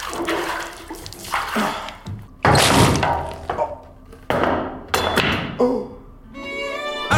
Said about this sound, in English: Just to let you know, the sound you heard was me chinning myself on the sink after slitting on a wet floor.